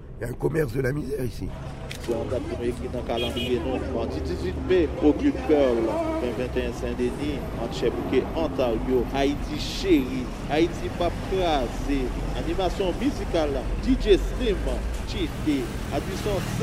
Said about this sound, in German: Langsam rollt das Auto am Ortsschild von Pétionville vorbei.